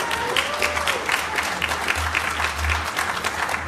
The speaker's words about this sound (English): Earned applause. That's good.